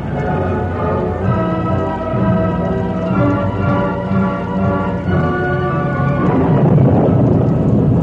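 Heavy rain pours down in a loud, steady roar with a deep rumbling underneath, swelling slightly toward the end; no one speaks.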